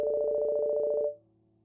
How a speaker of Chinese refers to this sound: 这时 我的手机响了。